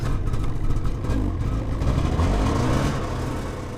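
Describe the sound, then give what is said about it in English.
A snowmobile engine drones steadily and loudly, a low rumbling motor with a rough, rattling texture as the machine drives across the sea ice of the Chukchi Sea on a snow machine trip with a group of science students, with no voices. “George and Mahoney are leading a group of science students on a snow machine trip out onto the Chukchi Sea.”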